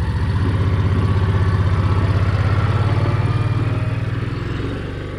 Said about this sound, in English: Goldman starts up the little garden cart she uses round the farm to take us from the tomato field back to the farmhouse.